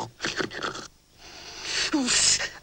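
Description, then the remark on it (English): A voice imitates the character Mowgli snoring in a Jungle Book story: a rough, breathy snort followed by a longer, hissing exhale with a brief voiced groan in the middle, heard alone without speech. “Mowgli snores.”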